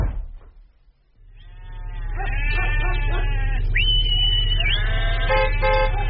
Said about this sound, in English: Excuse me, do you think you could park your sheep at the side of the road there?